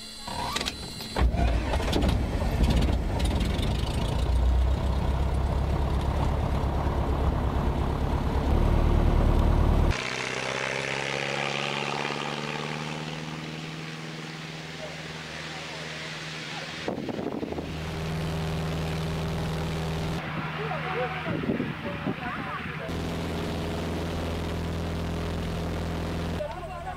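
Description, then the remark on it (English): A mission propeller airplane in Cameroon starts its engine with a loud, rough mechanical roar, then settles into a steady, droning hum that runs continuously with no talking. “Clear prop.”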